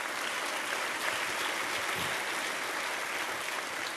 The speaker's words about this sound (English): That's right. That's worth clapping for.